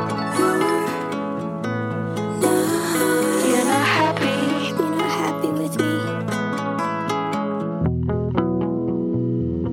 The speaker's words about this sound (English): Make sure you put on your headphones for this one. You're going to want to hear the painstaking intentionality behind every echo and arpeggio on these tracks.